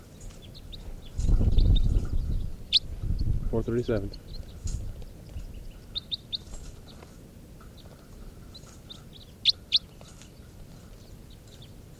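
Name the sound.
wild birds calling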